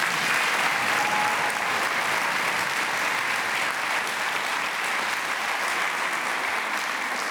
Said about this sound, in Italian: È un grande piacere averti ed è un grande piacere, come dire, constatare questo affetto che, insomma, arriva, che ti meriti tutto, ma che arriva anche da lontano, insomma, che quindi, insomma, vuol dire tante cose. È un applauso diverso dagli altri.